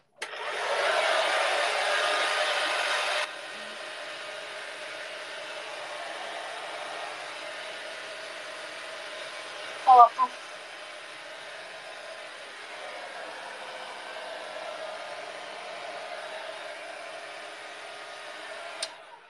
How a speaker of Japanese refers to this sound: ドライヤーのさ、送風みたいなさ、やつでさ、よいしょ。